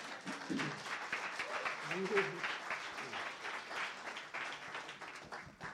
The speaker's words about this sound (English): Give God a hand clap. Amen.